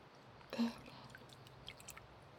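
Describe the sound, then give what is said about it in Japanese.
Warm water rinsing through hair so no foam remains: a brief soft splash, then scattered drips and quiet squishy wet sounds, low in volume, with no talking. “それではお湯で流していきますね。”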